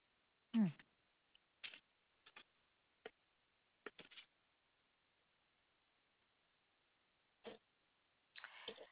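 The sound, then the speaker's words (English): Sparse, irregular keyboard taps as a woman types, single clicks and short bursts separated by pauses, ending in a quick flurry of keystrokes. A brief low vocal-like sound comes near the start; otherwise no talking. “She's typing right now.”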